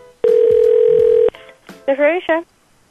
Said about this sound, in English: Yeah, can you hear? Yep, I hear a phone ring.